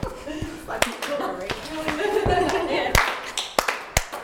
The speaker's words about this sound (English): All right, so clap, tap, tap, clap, slap, slap, stamp, clap, clap, clap. And back in.